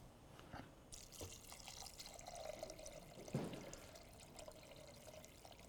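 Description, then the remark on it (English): Chicken stock pours steadily into a pot of healthy chili, a continuous splashing gush with a brief louder slosh partway through. No one speaks. “Now we're going to add our chicken stock.”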